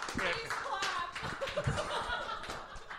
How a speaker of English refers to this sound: Please clap.